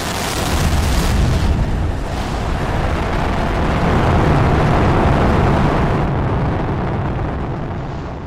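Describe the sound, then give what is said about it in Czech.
A deafening, continuous roar from an Apollo rocket lifting off fills the whole clip, a dense rumbling, crackling blast rich in low end that holds steady for about eight seconds without any speech. “Strhl se ohromný potlesk, ale myslím, že ho nikdo přes ohlušující start rakety neslyšel.”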